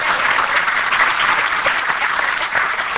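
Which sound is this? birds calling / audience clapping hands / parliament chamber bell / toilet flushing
audience clapping hands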